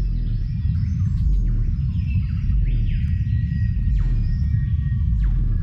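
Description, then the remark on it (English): A deep, rumbling low-pitched cassowary call drones continuously and loudly, with fainter higher chirps and tweets from other birds scattered in the background. “It's the lowest pitched bird call in the world, and it's barely audible to the human ear.”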